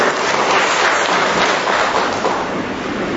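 Sustained applause from a large crowd at a Catholic gathering, given for the laborers, a dense, steady wash of many hands clapping at once, fairly loud and continuous for the whole stretch with no voices standing out.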